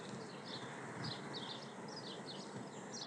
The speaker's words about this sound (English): Sparrows, I think.